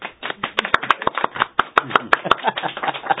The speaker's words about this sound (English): Now you may applaud.